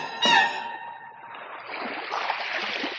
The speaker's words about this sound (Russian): Ну, позвольте, я слышу, волны гудят. Неужели море? Неужели море?